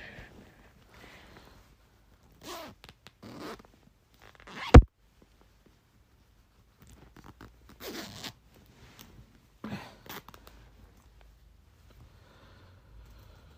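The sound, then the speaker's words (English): A zipper that is being bitten and played with is pulled back and forth in short, rasping bursts with pauses between them, plus one sharp click partway through. The zipping is fairly quiet and no one speaks. “We interrupt this program to bring you zipping noises.”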